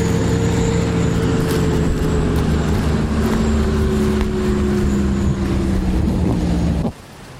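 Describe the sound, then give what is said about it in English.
Heavy coal trucks going up and down a road roar past, a loud engine drone whose pitch slowly drops as they go by, continuing steadily before cutting off abruptly. No one speaks. “So the thing I like about this scene, the muddy gushing water, the coal trucks, the mountains side carved off, the heavy equipment and the blast signs and all that, is that when you're home or wherever using electricity, this is it, folks.”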